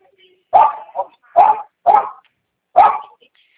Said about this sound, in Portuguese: o cachorro chato, hein?